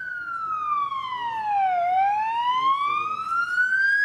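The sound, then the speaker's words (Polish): A loud ambulance siren wails alone during a medical rescue exercise of the Bieszczady GOPR mountain rescue group, its pitch sliding down slowly and then climbing back up in one long sweep, over a faint rumble of background noise. “Słychać było sygnał karetki, tu na drzewie coś wisi, a raczej oprócz tego, że coś, to także ktoś.”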